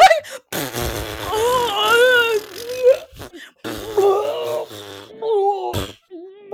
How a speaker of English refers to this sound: Something's happening down there. That's your fart. That's, you just gotta let it out.